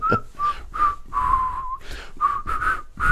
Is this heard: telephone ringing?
no